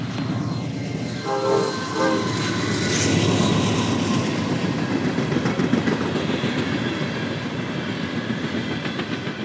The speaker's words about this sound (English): Here comes the train. This is Norfolk Southern, main line.